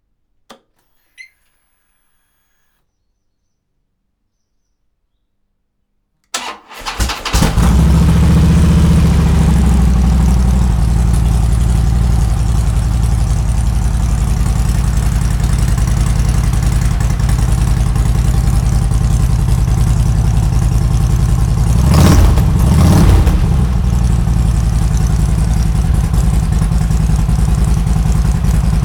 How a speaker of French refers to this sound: Après le petit son qui va bien, un démarrage de Harley Davidson Switchback, avec le petit son American.